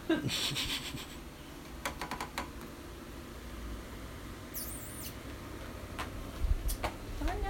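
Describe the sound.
An animal sniffs close up in quick little bursts, with soft fabric rustling and a brief high squeak partway through, while a faint voice murmurs in the background.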